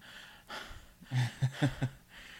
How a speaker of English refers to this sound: breathing hard. He can barely contain himself.